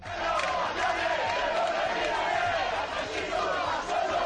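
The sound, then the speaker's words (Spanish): A large crowd shouts, whistles and jeers at Guardia Civil agents as it follows them to their vehicle during the Día de la Huida festival, a loud, dense roar of many voices with no pauses, rising and falling slightly over a few seconds. “un grupo de personas que siguen a varios agentes hasta su vehículo entre gritos y silbidos.”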